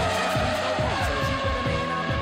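Formula 1 racing car engines roar loudly and continuously, with revving pitch that repeatedly climbs and drops as cars pass, no voices present.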